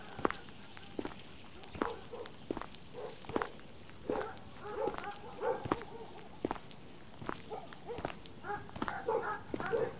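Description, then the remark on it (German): A few dogs come running up on a dog meadow with quick scuffing steps, letting out short yips and whiny barks. The steps tap steadily throughout, and the vocal bursts cluster in the middle and near the end. “Nicht erschrecken, wenn gleich ein paar Hunde angerannt kommen. Wir sind hier auf der Hundewiese.”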